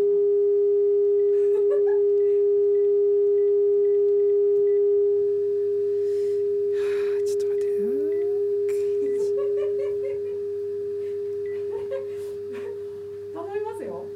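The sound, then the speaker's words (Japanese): A steady, unbroken electronic telephone tone hums at one pitch for the whole stretch as a phone number is called again, while faint voices and brief sweeping chirps rise and fall over it. “もう一回電話してみようか。”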